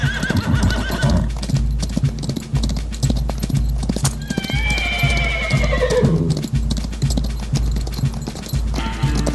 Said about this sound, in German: Los, Pferdchen. Lauf! Galoppiere!